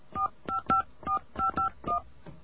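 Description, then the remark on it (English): A phone number being dialed on a touch-tone keypad to call Sprint PCS: about seven short, steady electronic beeps in a quick, slightly uneven rhythm, each a clear two-note tone, with no voices. “So let's go to the phones over here and find out if this one is true.”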